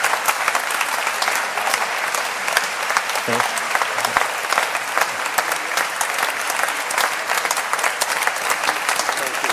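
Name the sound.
audience applause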